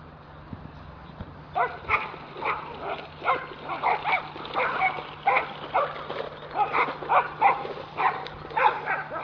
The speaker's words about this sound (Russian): Собаки весело обсуждают весну. Внешне кажется, что ссорятся. На самом деле... радуются теплому дню.